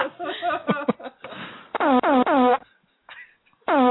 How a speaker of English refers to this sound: I was going to say, can I play the phone number and fart sounds?